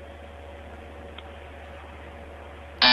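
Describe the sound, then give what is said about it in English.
A steady low electrical hum runs quietly for several seconds, then a loud, sharp electronic freezer temperature alarm tone suddenly cuts in right at the end, signalling that the freezer temperature is below normal. “Yeah, there's a problem with one of your freezers. It's beep, beep. The temperature is below normal, and I need to have you go and check on that, sir.”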